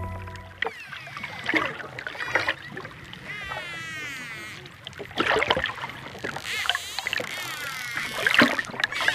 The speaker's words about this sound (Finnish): Siinä kuulemme erittäin älykkään eläimen ääntöä, eli delfiinin ääntelyä.